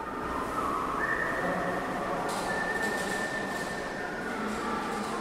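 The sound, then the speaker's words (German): A thin, sustained whistle rings out and holds its pitch as someone passes through a bicycle tunnel in a town in Baden-Württemberg, Germany, echoing over a loud, constant rumble of reverberant noise inside the tunnel. No one speaks. “Der besondere Hall im Tunnel sorgt immer wieder dafür, dass bei der Durchquerung gesungen oder gepfiffen wird.”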